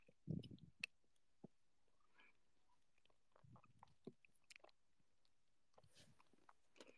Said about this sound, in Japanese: 昨日からお菓子抜きだ。なるほどね。だからガムなんだ。でごめん、咀嚼音めっちゃキモいよね。ごめん。